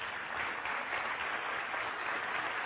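Steady welcome applause from a crowd for first-time visitors, a dense continuous patter of many hands clapping at even loudness throughout, with no talking over it.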